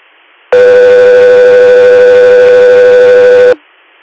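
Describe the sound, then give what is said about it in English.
A loud, steady radio dispatch alert tone holds for about three seconds, buzzy and electronic, cutting in and out abruptly against faint background hiss, with no one talking. “Captain Year, stand by for tones.”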